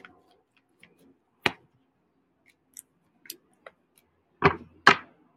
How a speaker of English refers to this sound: Okay, I'm gonna do one more shuffle. Oh, hold on a minute. I'm going to do one more shuffle and then pull.